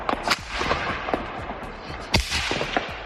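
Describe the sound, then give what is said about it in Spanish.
Close gunfire and explosions from street combat ring out in the streets of Kyiv during the night, a scatter of sharp cracks and booms with two especially loud blasts, echoing over a constant rumbling background. “Se escuchan muy de cerca las explosiones y los tiroteos de los combates, disparos en las calles de Kiev, a los que se une la desesperación de los que permanecen escondidos.”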